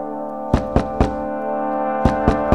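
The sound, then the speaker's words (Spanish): Two quick bursts of three hard, desperate knocks on a door, loud, separated by a short pause, with a steady low musical drone sustained underneath. “Se oyen golpes desesperados en la puerta.”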